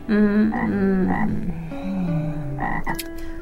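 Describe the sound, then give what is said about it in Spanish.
A toad croaks loudly in a continuous run of throaty, buzzing calls that rise and fall in pitch over a few seconds, with no talking. “Y se fue, saltando el sapo.”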